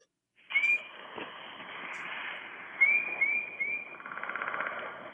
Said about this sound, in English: My husband and I have been hearing this bird for a long time, and we can't identify it. And I have it on my phone here. Can I play it?